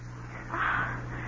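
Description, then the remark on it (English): A single short seagull cry rises briefly over a steady wash of sea noise and a low background hum, with no voices present. “Oh, isn't it queer how the sea and the gulls and the bellboy sound like silence?”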